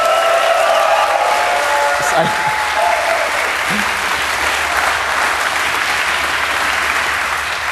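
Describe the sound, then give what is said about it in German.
Dense, sustained applause from a live audience at the Chaos Communication Camp for two performers, steady and fairly loud, with scattered whistles or tonal squeals faintly riding over the clapping. “Genau, ein super Applaus hier für unser Cyber-Team.”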